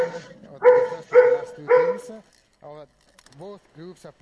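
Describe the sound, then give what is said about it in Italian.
Three loud dog barks come in quick succession, followed by softer, shorter yelps or vocal sounds with quiet gaps between them. “Cane.”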